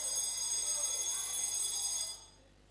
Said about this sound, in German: Ich meine, Hand auf, wer mag so Wecker?